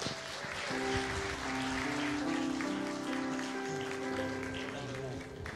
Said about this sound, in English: I always get a little intimidated when people clap for me, because you might get to the end and go, he wasn't even that good. I want some of my clapping back.